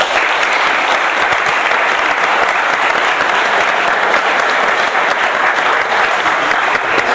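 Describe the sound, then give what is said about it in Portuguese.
Sustained, dense applause from an audience, given to thank a guest, steady and loud throughout with many overlapping claps and no pauses or talking. “chega pra cá, meu compadre, receba uma salva de palmas.”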